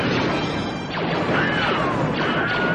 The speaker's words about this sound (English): And so now there is a compilation of every time the Wilhelm Scream was used in the Star Wars films. And this is it. So this is literally every Star Wars movie that has the Wilhelm Scream in it. Listen to this.